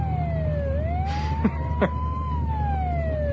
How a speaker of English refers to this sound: You know, that's the fourth ambulance in the last half hour. And? Spooky. How do you know it's not the same one going around in circles?